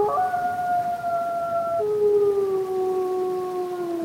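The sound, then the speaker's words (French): A pack of wolves in a completely wild valley howl together in long, overlapping tones, each voice holding a steady pitch that slowly sinks; the chorus carries on continuously with no pauses and nobody speaking. “et j'ai eu le privilège d'entendre ça, en fait, les jeunes, au début, ne savent pas hurler. Ils jappent comme des chiens. Et en fait, c'est un apprentissage aussi de hurlement.”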